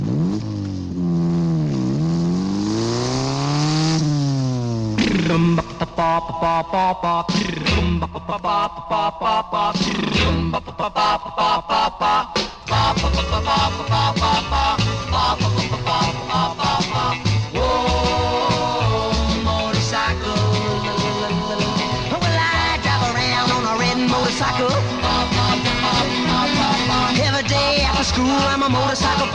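An early-1960s rock and roll song plays loudly, opening with a few seconds of rising and falling engine-like revving before the full band kicks in with steady drums and guitars.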